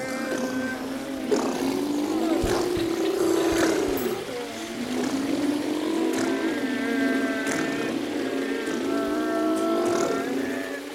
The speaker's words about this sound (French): le bruit des tracteurs.